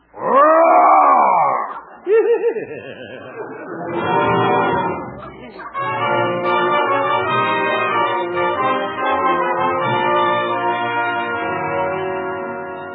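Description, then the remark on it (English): A man dressed in a bear skin imitates a bear with a loud, wavering growl that rises and falls, then a few shorter grunting growls before steady music takes over. “Guess this is my night to growl.”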